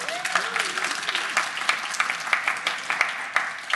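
Sustained applause from an audience, a dense wash of many hands clapping with sharper individual claps popping out, steady and fairly loud throughout, with a faint voice or cheer at the start.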